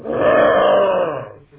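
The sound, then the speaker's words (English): A single loud, drawn-out roar made by a human voice mimicking a lion, swelling quickly and holding steady for over a second before fading into a low rumble. “The jackal says, oh, but a lion,”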